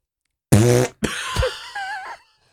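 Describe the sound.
A person makes fake fart noises with their mouth, loud: a short buzzy blast, a brief pause, then a longer wavering, sputtering raspberry that trails off.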